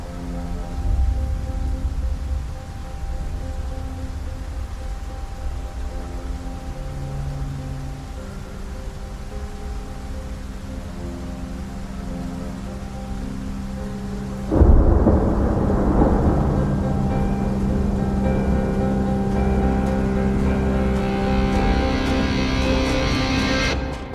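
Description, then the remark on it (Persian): Heavy rain pours steadily beneath deep, rolling thunder, then a sudden louder crash about two-thirds of the way in brings an even denser, roaring downpour. No voices are heard. “بارون شدید میباره.”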